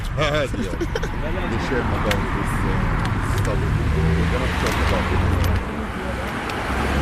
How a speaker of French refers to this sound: Elle s'engouffre alors dans une voiture conduite par son père.